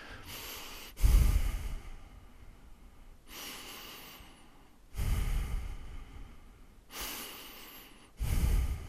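Slow breathing: deep, airy inhales and exhales alternating in a steady rhythm, about five breaths in all, with no talking.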